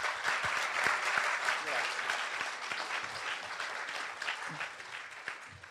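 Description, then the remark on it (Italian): An audience at the Spazio Alfieri claps steadily for several seconds to welcome the journalist Vlode Kolkorn, a dense wash of many hands with sharper individual claps standing out, holding at a fairly even level before thinning slightly toward the end. “Siamo qui con Vlode Kolkorn che vi invito a salutare con un applauso.”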